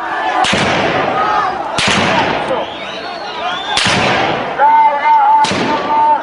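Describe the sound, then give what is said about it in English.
Four sharp, loud gunshots crack out at uneven intervals over a constant roar of crowd noise, with raised voices and shouts carrying on between the blasts on a street in the central city of Taiz. “A video posted on YouTube Sunday shows men carrying a woman who appears to be bleeding from the head after shots ring out in the central city of Taiz.”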